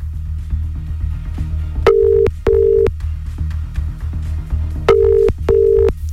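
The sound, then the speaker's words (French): A telephone call to a random number rings on the line, two double-burst ringback tones about three seconds apart, clear and steady over a low, busy background. “Et vous connaissez le jeu, on va appeler un numéro au bol et laisser le téléphone sonner trois fois tout pile.”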